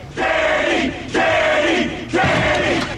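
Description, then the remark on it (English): A crowd shouts a loud chant in three rhythmic bursts about a second apart, many voices rising together on each call, urging a friend not to drop out of school. “Shouting already.”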